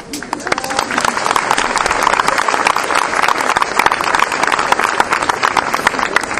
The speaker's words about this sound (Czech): Patří se samozřejmě poděkovat všem tým, které už tady byli jmenovaní, ale možná i tým, co jsou doma a modlili se za to, aby nám aspoň tento porad vyšel. Jestli jste to byli aj vy, tak aj pro vás je ten potlesk.